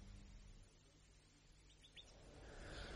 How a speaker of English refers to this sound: That nightingale's just too much. Is it real? Or have you hidden a tape recorder?